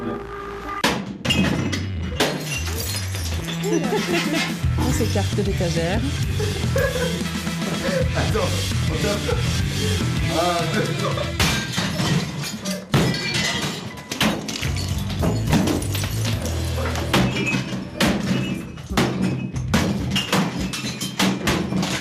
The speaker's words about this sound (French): Eh bien, vous avez 20 minutes pour tout casser. Amusez-vous bien. Pardon, attendez, je mets juste un casque avant d'en prendre la tête. Ouais. Donc, vous avez pris une batte et vous deux, ouais, un pied de biche.